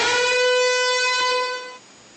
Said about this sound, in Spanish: 9:06, Julio, suena la chicharra de las noticias falsas porque hace unos instantes usted compartía con nosotros una noticia sobre la posible compra de Colombia de 3 aviones C-130H Hércules.